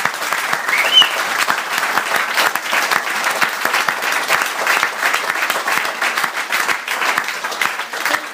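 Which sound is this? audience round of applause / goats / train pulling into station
audience round of applause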